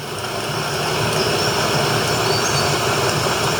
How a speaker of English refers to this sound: Hey Siri, play rain sounds. Now playing rain. There's the rain.